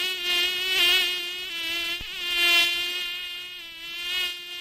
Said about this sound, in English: Oh, don't you hate that? That's a mosquito, a lowly mosquito, although if it's a mosquito, it may be carrying malaria, depending on where it's living.